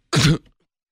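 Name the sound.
a little cough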